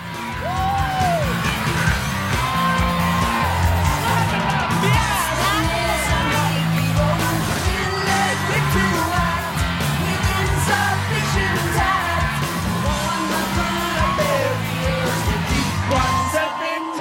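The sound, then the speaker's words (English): A concert crowd yells and whoops nonstop, loud, with rising cheers and shouts layered over pounding live rock music from a band of two guitarists and a drummer on stage, for the whole stretch. “She stands staring at them amid the heaving crowd.”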